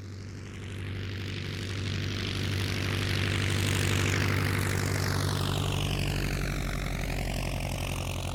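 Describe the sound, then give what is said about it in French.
Propeller airplanes carrying penguins on board take off, the engine roaring steadily with a strong low hum while a sweeping whine shifts in pitch as it powers up. “Les avions décollent avec les pingouins à bord.”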